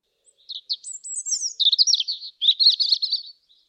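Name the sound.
european robin chirping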